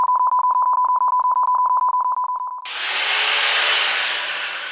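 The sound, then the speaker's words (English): A rapid, regular train of short electronic beeps at one steady mid-high pitch, then an abrupt switch to a loud, dense continuous rushing noise, as if the beeps blur together. The beeps represent the rate of solar panel installation in Spain, the previous decade's average compared with 2019. No speech. “If you imagine these beeps as being the average rate of solar panel installation in the previous decade, this is how it compares to this year.”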